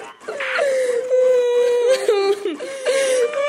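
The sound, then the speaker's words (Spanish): A voice imitates whimpering and sobbing, producing sustained wavering wails with a few catching breaths, loud for a few seconds with no other sounds around it. “Llegado el llanto, se tapará con decoro el rostro usando ambas manos con la palma hacia adentro.”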